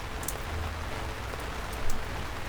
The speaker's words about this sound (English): Suddenly, it started raining.